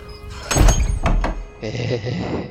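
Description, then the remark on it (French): The wooden door of a cabin in the woods is pushed shut with a heavy thud during a storm, then two quicker knocks as it settles, loud. Afterward a person starts talking. “Referme bien la porte.”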